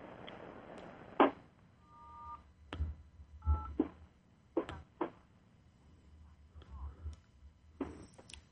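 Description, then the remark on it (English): A few short, steady telephone tones beep on a phone line, mixed with sharp clicks and low thumps over a faint, hissy line background. “And let me get rid of those tones.”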